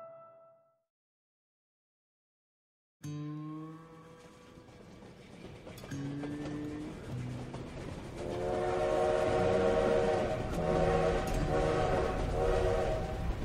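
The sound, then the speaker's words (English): After a brief silence, a steam passenger train rumbles along the rails with steady clickety-clack, its whistle sounding several times as the noise builds louder. “Imagine it's 1876 and you're riding the passenger trains from Chicago to San Francisco. The steam engine has rumbled through the Great Plains, wheeled up the Rockies, and descended onto the vast salt flats of Utah.”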